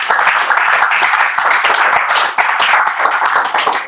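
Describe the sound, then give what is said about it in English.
A crowd claps for Jesus, steadily and loudly for several seconds, a dense wash of many overlapping hand claps with no pause, fading out only slightly near the end. “Give Jesus a clap of.”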